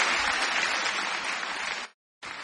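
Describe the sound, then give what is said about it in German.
Long, dense, steady applause from a large concert audience for a band with a musician on piano and keyboards and a saxophonist, loud and continuous, breaks off abruptly into a moment of silence and then resumes. No voices are heard. “Lang anhaltender Beifall dankte … mit dem Preisträger … am Flügel und den Keyboards, dann dem Frankfurter Tenorsaxophonisten …, er blies ja auch Sopransaxophon,”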